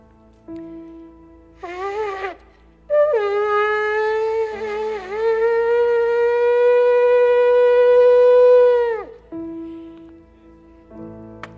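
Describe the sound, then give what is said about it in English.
A loud alarm siren sounds: a brief wavering blast, then a long steady, piercing tone held for several seconds before it drops off sharply. No one speaks. “One more time, I want to sound the alarm.”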